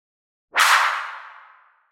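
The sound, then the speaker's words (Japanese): A single sharp, loud slap across the face cracks out of silence, then fades away over about a second in a bright, echoing tail. No one speaks. “あらあら、パーン。ビンタされちゃいましたね。”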